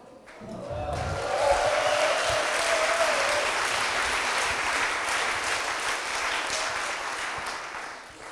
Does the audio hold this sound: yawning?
no